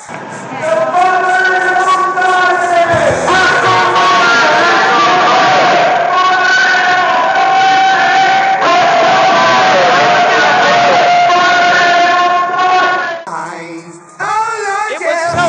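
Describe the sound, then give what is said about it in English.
A loud, continuous roar of a protesting crowd heard inside downtown office buildings off 15th Street, many voices shouting and chanting together at a steady high level, with a brief dip and a few higher cries near the end. “Even though an undercover car with Virginia tags was seen shadowing the protests, it looks like the FBI Joint Terrorism Task Force didn't share their intelligence with security in the buildings, and here's what it sounded like inside.”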